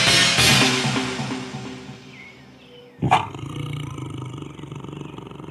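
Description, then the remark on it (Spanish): A tiger roars loudly with a rich, rumbling tone that fades over about two seconds, then a second roar bursts in and continues steadily. No one speaks. “Ahora debo ir a la casa del tigre.”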